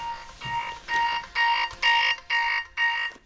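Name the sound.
alarm clock ringing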